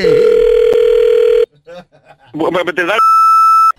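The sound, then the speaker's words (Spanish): A steady, loud telephone dial tone hums after a dropped call, cuts off, and a man speaks briefly before a higher-pitched continuous electronic tone takes over to the end. “Oiga, señor, creo que se me cortó la llamada.”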